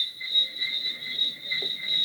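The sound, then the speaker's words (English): Crickets chirp in a steady, continuous high-pitched trill throughout, a dense outdoor insect chorus in the lush green countryside of Barbados, a drive from Bridgetown, with vegetation and palm trees everywhere and no voices present. “There's vegetation everywhere, palm trees, fruit, rich soil, the sounds of birds and crickets.”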